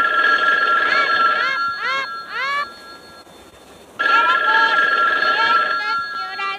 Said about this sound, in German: Um 6 Uhr am Abend klingelte dann in der Zentrale das Telefon.